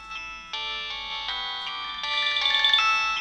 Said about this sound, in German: Ihr Handy klingelt.